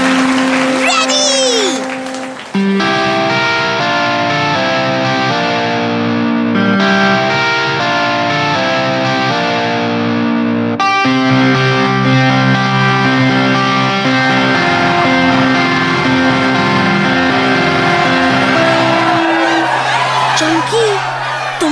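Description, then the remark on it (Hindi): Chamki, introduced as the best guitarist of the lane, plays a loud, distorted electric guitar at a show in the neighbourhood square: a sustained melodic line with rich, ringing notes, while a cheering crowd whoops and shouts around the start and again near the end. “और अब आपके सामने आ रही है इस गली की सबसे अच्छी गिटारिस्ट, तालियों से स्वागत कीजिए चमकी का।”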